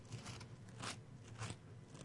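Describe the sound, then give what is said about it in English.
An audience turns Bible pages to 1 Corinthians chapter 11 on a Tuesday night: pages rustle and flip with a soft continuous papery crackle and two brighter swishes a little apart, over a low steady hum. No one speaks. “Oh, it's good to hear the pages turning on a Tuesday night.”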